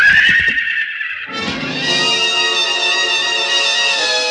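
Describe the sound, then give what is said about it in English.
A stallion named Prince rears high and lets out a loud whinny, a long shrill neigh that wavers and holds strong for several seconds with no voices over it. “The stallion reared high, pawed at the gathering darkness.”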